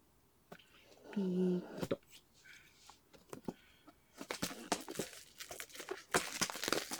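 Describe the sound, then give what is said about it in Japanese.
Crackly crinkling of plastic wrap around a product box being handled and torn open, with sharp bursts of rustling that grow busier toward the end, and a brief hum-like voice early on. “じゃあ早速開けていきたいんですけど、これビニールハサミで切った方がいいかな。”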